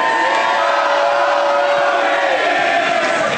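A loud audience at a live show in Tacoma cheers and roars without a break for a few seconds, a dense wall of voices with whoops and shouts mixed in and no single speaker standing out.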